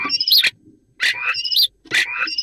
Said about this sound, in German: Das ist der Star. Ach, Star. So klingt ein Star. Mhm. Ja, ein Star.